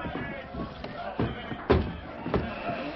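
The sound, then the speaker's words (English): Heavy fort gates creaking open as men open them for the Lone Ranger, Lieutenant Nelson and Little Bear to ride out, with a few dull thuds and clunks spaced out over a few seconds, moderately loud against a low background murmur. “All right, men. Open the gates.”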